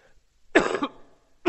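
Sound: coughing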